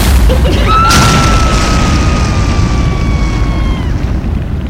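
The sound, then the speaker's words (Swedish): A sudden loud whoosh and boom as something bursts into flame, apparently Worcestershire sauce creating a fireball, followed by a sustained roaring rush. A steady high tone with harmonics drifts slightly downward for a few seconds above the roar. “Nu verkar det ändå som att den tar eld här, den här. Och den Worcestershock som verkar skapa någon slags eldboll.”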